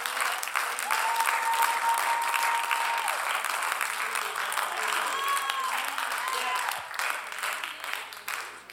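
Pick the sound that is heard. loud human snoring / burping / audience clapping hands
audience clapping hands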